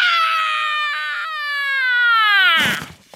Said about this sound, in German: Mit einem Schrei stürzte sie sich in den Papierkorb.